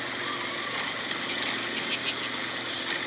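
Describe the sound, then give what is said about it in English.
A steady, rumbling engine drone of an off-road vehicle being driven four-wheeling in Livingston County runs throughout, with broad gritty noise and small surges in loudness, no voices heard. “Four-wheeling.”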